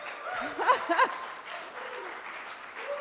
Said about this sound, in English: Let's give a clap for Jesus.